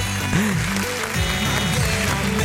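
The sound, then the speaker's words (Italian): Steady audience applause, a dense wash of many hands clapping at even loudness throughout, with some faint tonal cheering or whistling rising and falling beneath it. “Guarda che belli questi applausi.”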